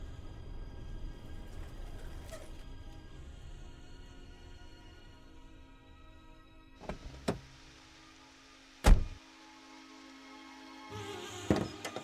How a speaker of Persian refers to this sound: انگار دارم منم یه چیزایی میشنوم، نکنه صدای ماشینه.